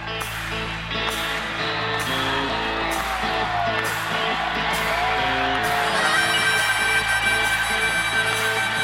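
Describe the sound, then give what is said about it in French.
A huge crowd of about 18,000 at the Bercy arena in July 2016 screams and cheers without letup, a dense roar of whoops and yells over live music with guitar, harmonica and sustained ringing tones, loud and steady throughout. “Grandiose, guitare, harmonica, on hurle de bonheur.”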